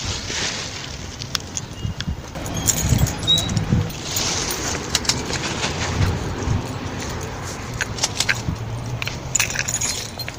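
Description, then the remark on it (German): Litter picker tongs click repeatedly in a loose, irregular rhythm while a plastic bag rustles and crinkles steadily underneath, against faint outdoor background noise, as city street cleaning picks up litter during the Corona pandemic. “Sack, Kräschel. Eine Zange, die klickt. Sie liest Dreck auf.”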